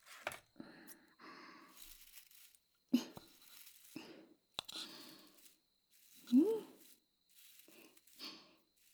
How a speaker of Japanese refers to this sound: 柑橘系の香りのついたタバコの葉をこちらの小さい容器に乗せていきます。そしてタバコの葉を混ぜたり、こうしてハサミで切っていきます。